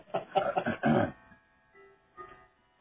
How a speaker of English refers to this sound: And I'm sorry, that's my clock, and I don't want to mute the call right now.